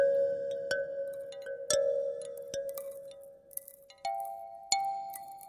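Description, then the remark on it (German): Chimes made of narrow ice plates, hanging on thin strings and differing in thickness and length, are struck several times, each hit ringing out in a clear, sustained tone that shifts pitch between strikes, fairly loud with no voices. “Wenn man dagegen schlägt, entstehen die verschiedenen Töne. Diese Glockenspiele sind noch recht einfach herzustellen.”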